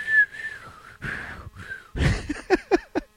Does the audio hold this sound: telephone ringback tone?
no